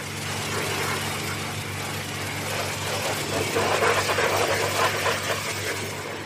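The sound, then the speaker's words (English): An engine idles steadily on a petrol station forecourt where petrol, coal and dog food are sold, with a car wash and car repair garage out back; a constant low rumble with a busy, rattling mechanical texture, holding at an even moderate level throughout with no voices. “Outside in the forecourt, there's petrol, coal and dog food for sale.”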